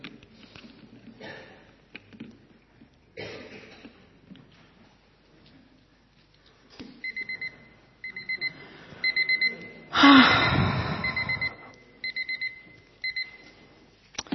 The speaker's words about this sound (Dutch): Wakker worden. Dan is het wakker worden waar je zelf voor kiest, hè? Dan zet je de wekker, moet je er op tijd uit, gaat het gebeuren.